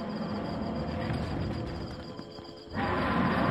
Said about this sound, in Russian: покрутил своей головой, поскреб когтями свои грязные, спутавшиеся длинные волосы на теле и издал ужасающий рев, от которого содрогнулось все кругом.